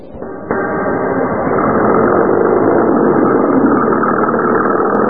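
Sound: truck engine idling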